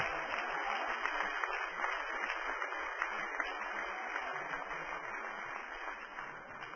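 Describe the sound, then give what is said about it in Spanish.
A church audience applauds God during a sermon, steadily, a dense, continuous wash of many hands clapping at an even level for several seconds, with no voices standing out above it. “Dale un aplauso a Dios, me van a perdonar.”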